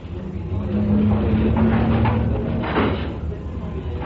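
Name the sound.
door opening or closing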